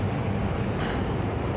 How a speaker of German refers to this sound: Wir warten noch, bis der LKW vorbei ist. Wir warten noch, bis das Scheppern da aufhört.